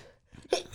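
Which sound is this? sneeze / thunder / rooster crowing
sneeze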